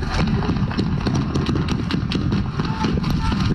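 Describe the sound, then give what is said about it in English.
A long burst of gunfire, about 17 shots bringing the total to 20: sharp shots crack in quick, uneven succession over a dense, steady low rumble, with no pause for nearly four seconds. “This long burst is about 17 shots, bringing us a total of 20.”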